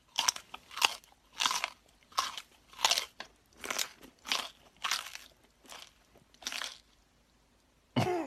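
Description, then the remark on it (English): Loud crunching of crisp food being chewed by a Foley artist to mimic an animal eating on screen, about a dozen bites in a steady rhythm, then a brief pause before one final crunch. No one speaks. “will snack on different foods to perfectly mimic their meal, letting them eat like a monkey or a horse.”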